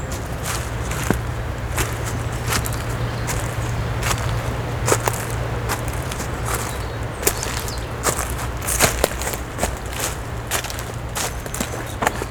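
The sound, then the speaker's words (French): Footsteps tread across a carpet of leaves on a waterlogged trail in the Estérel massif, each step a crisp rustling crunch at an uneven walking pace, over a steady low hum with no one speaking. “Tapis de feuilles.”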